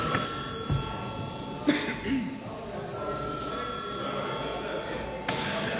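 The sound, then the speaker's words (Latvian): A bell in the chamber of the Saeima, Latvia's parliament, rings steadily for about five seconds before a vote, a continuous high, buzzing electric tone, with faint murmuring and a few soft knocks and rustles beneath it. “Lūdzu zvanu.”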